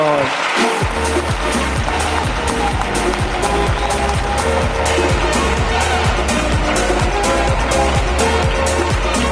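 An audience bursts into loud, sustained applause, a dense and steady wash of many hands clapping that holds at an even level for about nine seconds with no talking over it.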